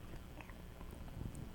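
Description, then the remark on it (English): A child gnaws on a spoon, with soft, wet chewing and small irregular clicks of the utensil against teeth, fairly quiet and continuous over a muffled background. “Chew on it.”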